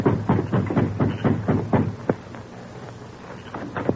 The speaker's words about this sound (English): This is my chance. Going to the front door, the Lone Ranger knocked.